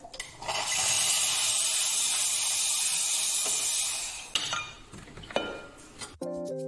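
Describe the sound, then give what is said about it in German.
A coffee machine's steam wand in the Coffee Lab on the Easter Campus gives a loud, steady hiss for about four seconds, then fades into scattered clinks of cups and dishes, ending with a brief tonal chime. “Die Kaffeemaschine im Coffee Lab ist ein Teil der ambitionierten Vermittlungsmission, die mit Oktober 2025 auf dem Easter Campus abhebt.”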